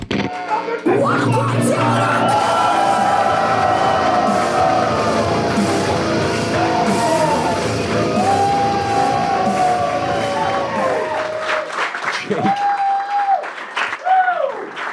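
A loud, dense crowd claps and cheers continuously, with whoops and yells rising above the applause, building into a frenzied roar before tapering into scattered shouts near the end.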